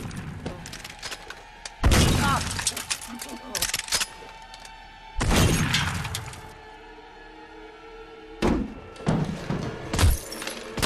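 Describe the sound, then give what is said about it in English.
Loud gunshots fired into the reinforced rear window glass of a limousine by a man standing on its boot, about four sharp blasts spaced a few seconds apart, each with a cracking, shattering ring that trails off before the next hit. “Logan stares tremulously out as Jack walks like some lethal robot to the rear of the limo, climbs onto the boot and starts shooting at the rear window.”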